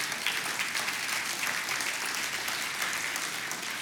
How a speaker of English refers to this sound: We can cheer for that.